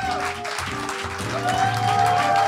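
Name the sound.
audience applause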